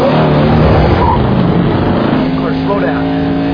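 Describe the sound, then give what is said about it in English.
A car engine roars steadily and climbs in pitch as the driver speeds up with passengers inside, loud, with a raised voice shouting over the engine noise. “Not with us in the fucking car.”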